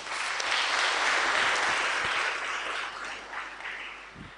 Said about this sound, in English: But the Lord gave us victory. Give him a clap for that.